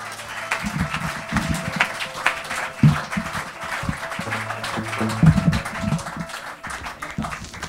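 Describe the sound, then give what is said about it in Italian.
A crowd at a live music show applauds steadily for several seconds as a band is introduced, a dense wash of many hands clapping at fairly even loudness, with a low murmur underneath. “Facciamo un applauso.”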